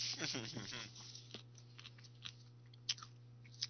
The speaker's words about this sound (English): Today's episode is brought to you by green beans, because you can hear … chewing them in the background